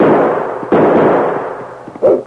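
Three loud gunshots ring out, each a sharp crack followed by a long, rumbling decay. The first two come less than a second apart, then a pause before the third. No voices are heard.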